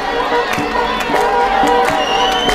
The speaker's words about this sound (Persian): کارتون خوابا توی سینما در حال رقصیدن و دست زدن و شادی کردنن.